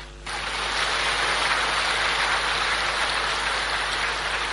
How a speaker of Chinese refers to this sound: 台长说，那是当时的会场鼓掌。